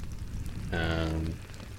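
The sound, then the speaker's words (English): Steady water dripping and pattering in an echoing tunnel, a continuous wet hiss, with a brief ringing, resonant tone swelling up for about half a second in the middle. “I hear, like, a pretty constant, like, dripping. It's kind of calming. And it echoes as it falls.”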